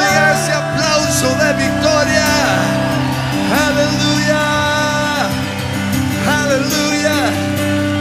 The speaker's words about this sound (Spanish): ese grito de júbilo.